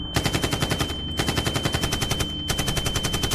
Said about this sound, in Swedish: Sen började ett avvikande ljud höras bland alla glada människor som skrattade, dansade och skålade. Det lät som fyrverkerier. DJ:n sänkte musiken. Skottlossning.